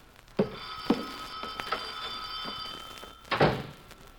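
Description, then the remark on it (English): A telephone rings in an office with a sustained, bright electronic tone lasting a couple of seconds, while dull thumps and knocks sound, ending in a louder clunk. “My office girl is out today, and I'm hopping phones myself.”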